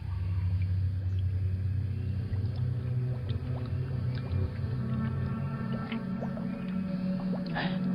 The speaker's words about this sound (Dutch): Water stroomt de verkeerde kant op. Ik ben bang dat er iets mis is. Er hangt een bovenmaatse waterslang in de bron. Iemand zuigt die rivier op.